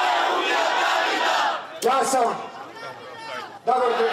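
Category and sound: crowd, crowd shouting in protest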